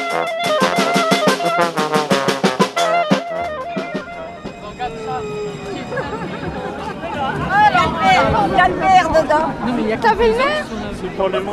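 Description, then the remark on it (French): A rapid run of ringing, tonal pulses opens, then a lively crowd at place de la République in Le Mans takes over, many voices chattering and calling out excitedly at a steady, fairly loud level as a train of the new Le Mans tramway arrives with M. Boulard seen inside. “Ah, une rame arrive, place de la République, et la foule est en liesse, puisqu'on a aperçu M.”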